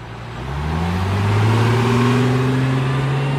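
A tour bus engine grows louder as it accelerates past on the Highway 76 strip in Branson, Missouri, in the Ozarks in early spring, its low droning hum rising steadily in pitch, prominent with no voices.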